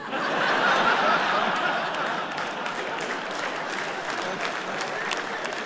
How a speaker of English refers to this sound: Just men applauding that.